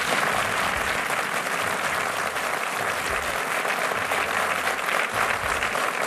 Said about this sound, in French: Applaudissez-vous.